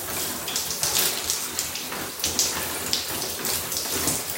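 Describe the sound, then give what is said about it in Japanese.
Steady spray of running shower water with uneven splashing and patters, rinsing foam off a face after washing, continuous throughout with no voices. “泡とかをシャワーで流していって”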